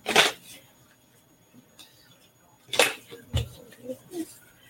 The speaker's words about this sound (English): I'm going to shuffle and pull a Garden Dragons card.